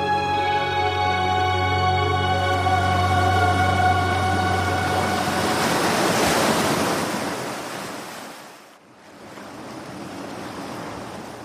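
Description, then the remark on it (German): Ocean waves roll and break in a steady rushing wash that swells, briefly recedes, then surges again. A sustained musical drone fades out over the surf during the first few seconds. “Und wenn ihr das mögt und den Klang der Wellen gerne hört, dann seid ihr hier richtig.”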